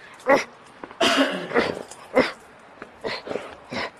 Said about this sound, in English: I have not seen this dog get this excited about a toy in quite a while.